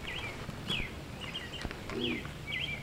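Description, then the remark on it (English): Birds sing outdoors in short, bright chirps and sweeping whistles repeating every second or so, with a low cooing call underneath and soft ambient noise throughout; no voices. “Just listen to the birds now.”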